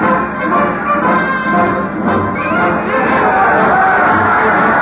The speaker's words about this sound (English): Listen to the cheer